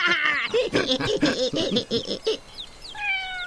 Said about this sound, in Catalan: He sentit el gatet. Ah, sí? A veure si el tornem a sentir.